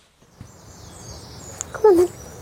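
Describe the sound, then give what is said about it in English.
A dog named Vinny gives a single short, high whine that slides downward, fairly loud, after a couple of seconds of quiet outdoor background, by a campervan parked in Kippax near Leeds, West Yorkshire. “We may have come to meet Vinny in Kippax near Leeds, but he's a very well-travelled dog,”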